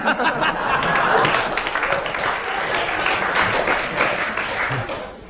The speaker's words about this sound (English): Thank you for that applause.